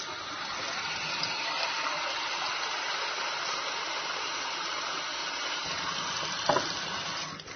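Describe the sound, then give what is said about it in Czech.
Water, one to two litres, pours steadily into a large frying pan holding 7 or 8 tablespoons of baking soda: a continuous rushing and splashing that holds an even level for several seconds, with a brief clink near the end and no voices. “Dok se šporet greje, mi ćemo u veliki tiganj staviti 7 ili 8 supenih kašika sode bikarbone i liter do 2 vode.”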